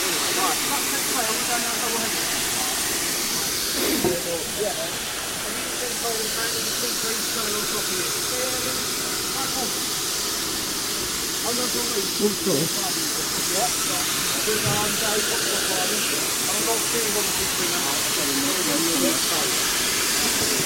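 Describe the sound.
A steam locomotive, number 65, dating from the late 1890s, hisses loudly and continuously, a steady broad rush of escaping steam, at the busy station at Swanage during a railway gala, with indistinct voices from the platform murmuring faintly beneath it.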